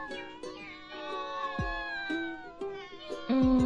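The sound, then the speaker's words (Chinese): Several cats meow at feeding time, their overlapping calls rising and falling in a steady stream, with a few louder, more insistent cries toward the end. “等我记低先，灵活师兄嘅喂猫地点。”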